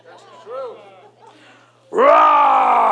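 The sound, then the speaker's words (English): A person vocally imitates a roar: after some soft, wavering vocal sounds, a loud, sustained, rough-edged roar with a buzzing vibration bursts in and holds steady to the end. “Roar! With vibration. You hear me? I should have had that roar on every time I spoke.”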